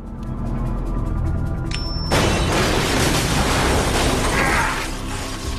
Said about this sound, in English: Jack places the bomb Henderson has shut him in the room with by the door, surrounds it with furniture, and then takes cover beneath a floor panel. Henderson remotely detonates the device.